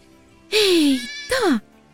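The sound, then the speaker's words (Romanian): A lamb that has strayed far from its flock bleats twice: a loud, wavering cry that slides downward in pitch, then a shorter second bleat after a brief pause, with no other sounds around it. “Cum a putut mielul să se îndepărteze atât de mult de turmă?”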